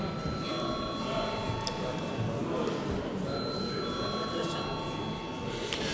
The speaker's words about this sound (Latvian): Ir iebildumi, lūdzu zvanu.